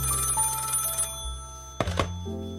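A telephone in a detective office rings loudly for about a second, then stops, followed by a couple of sharp clunks like a handset being lifted, with no voices.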